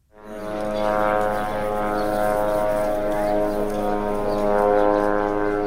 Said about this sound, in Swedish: Så här låter Sanana, drönaren som israelisk militär övervakar Gazaremsan med. Ljudet skrämmer barnen i Gaza,